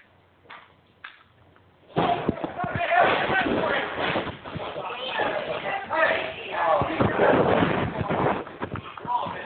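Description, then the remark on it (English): After a couple of quiet seconds with faint taps, a microphone gets knocked over: a sudden loud thump followed by sustained scraping, bumping and handling noise, with muffled voices underneath. “Billy Chainswang knocked our microphone down.”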